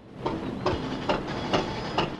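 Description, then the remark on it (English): A small fishing boat engine chugs steadily as the boat pulls away from a ship, its regular thumping beats repeating about twice a second over a constant hissing rumble, moderately loud, with no voices. “The captain of the ship watches with concern as the little boat chugs away.”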